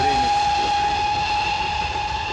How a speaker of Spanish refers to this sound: los trenes